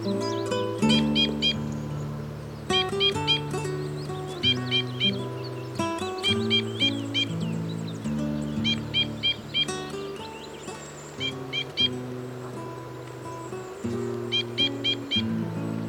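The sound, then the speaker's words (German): A two-barred crossbill sings in repeated bursts of high, rapid chirps and trills, phrase after phrase, over a steady low droning musical backing. “Das war der Bindenkreuzschnabel.”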